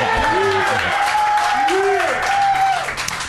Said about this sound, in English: I love the golf clap. That was like the delay.